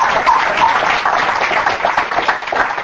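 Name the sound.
audience hand clapping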